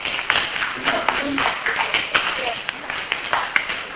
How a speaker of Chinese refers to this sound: 好， 欢迎大家鼓掌，大家鼓励大家，大家鼓励大家。